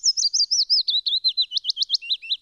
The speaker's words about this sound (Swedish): Det jag spelar upp nu är Sveriges vanligaste fågel. Är det lövsångaren?